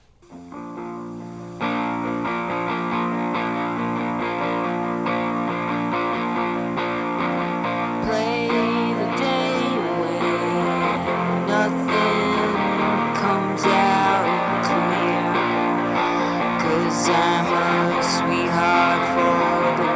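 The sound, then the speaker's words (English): A newly written lo-fi song, recorded on a four-track cassette recorder, kicks in after a brief moment, with fuzzy distorted guitars, tape hiss and a dense, steady mix playing loudly and continuously throughout. “write a new song and record it on a four-track cassette recorder.”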